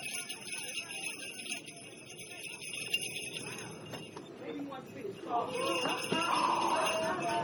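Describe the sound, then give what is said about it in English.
Christmas bells announcing Santa Claus's arrival to children ring in a steady, high, shimmering jingle that runs throughout, with indistinct voices and crowd shuffling murmuring underneath and growing a little louder toward the end. “Tell them I'm bringing the bells. All right, so you can hear the bells.”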